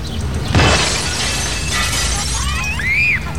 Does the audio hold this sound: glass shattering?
yes